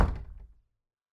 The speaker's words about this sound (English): The door slammed.